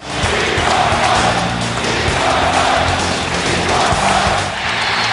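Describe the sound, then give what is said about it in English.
A dense, steady roar of a Philadelphia Sixers arena crowd standing and cheering, demanding an encore from Michael Jordan late in the fourth quarter, loud and sustained throughout, with overlapping voices and faint thuds like a bouncing ball underneath. “A whole building standing and cheering.”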